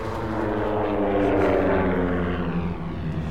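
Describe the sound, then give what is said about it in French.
A propeller airplane engine drones loudly and steadily with a troubling noise in it, its harmonic hum shifting slightly in pitch as the plane dives again, continuous with no talking. “Ce qu'on entend, n'est-ce pas un bruit dans le moteur ? À présent, l'appareil pique de nouveau.”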